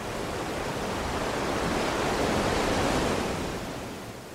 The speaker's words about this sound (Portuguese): Mas a gente conseguiu ter uma boa conversa aqui nessa varanda, olhando essa chuva, sentindo o quão gostoso é a chuva caindo, tanto pelo barulhinho, quanto pelo frescor que ela traz.